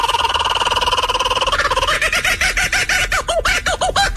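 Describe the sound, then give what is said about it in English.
A laughing kookaburra calls with a rapid, rolling chatter that starts as a steady trill and builds into loud, rhythmic, rising-and-falling hoots, like raucous laughter, with no talking. “No, that is a bird. Damn it! That is the laughing kookaburra.”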